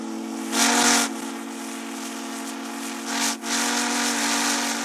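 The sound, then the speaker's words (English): A steam locomotive whistle at Steamtown National Historic Site in Scranton blows loud and steady for several seconds, a sustained chord-like tone with two surges of hissing steam breaking through partway. No one speaks. “We're going to blow the whistle. Please be ready.”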